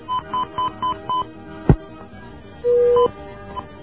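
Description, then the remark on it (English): Five short, evenly spaced telephone beeps at a steady mid pitch as another caller is tied into a radio call-in line, then a sharp click and one longer, lower tone, all over a faint line hum with no talking. “Okay, we have another beeping call here, but where's our new caller from?”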